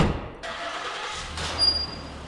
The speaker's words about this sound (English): Then they jump into a car that reads Community Paramedics on the back, and they head out.